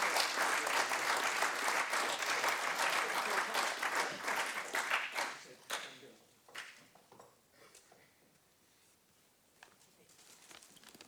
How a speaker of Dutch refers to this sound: En ik hoop dat jullie dat gepaard laten gaan met een warm en hartelijk applaus.